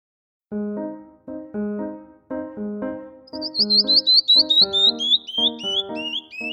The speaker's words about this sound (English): Listen, what's that? Tweet, tweet. It's a bird.